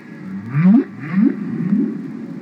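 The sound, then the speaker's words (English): Low, moaning whale calls rise in pitch in a series of upward sweeps, three swelling tones in quick succession with a resonant, underwater quality and no voices. “What I decide is the world has to hear this.”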